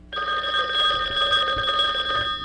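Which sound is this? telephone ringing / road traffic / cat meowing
telephone ringing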